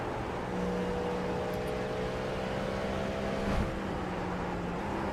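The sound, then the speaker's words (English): A steady car engine drones on while driving, a low continuous rumble with a faint humming pitch, holding even throughout with a brief thump partway through. No one speaks. “Driving a car right now.”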